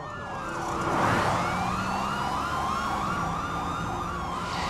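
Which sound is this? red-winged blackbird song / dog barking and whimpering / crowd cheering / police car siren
police car siren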